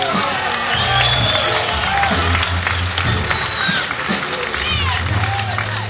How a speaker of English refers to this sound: How about a nice round of applause for …?